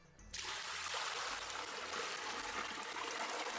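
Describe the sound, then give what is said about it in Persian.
A steady rush of water pouring into a large cauldron in a sweets workshop in Shiraz, Iran, starting abruptly after a brief pause and continuing as a dense, even splashing hiss. “در پاتیل ابتدا مقداری آب و سپس به همان مقدار گلاب.”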